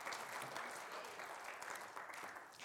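A crowd claps steadily, a dense, continuous patter of many hands at a fairly even loudness with no voices standing out.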